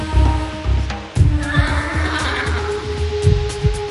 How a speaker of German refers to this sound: Sein Pferd schnaubte leise und blies warmen Odem in die eiskalte Luft.